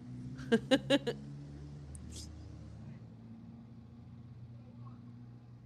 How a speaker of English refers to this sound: And we have a video clip that we can show here of the bus arriving.